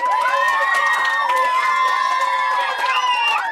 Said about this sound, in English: Give yourself a big pat on the back and a round of applause.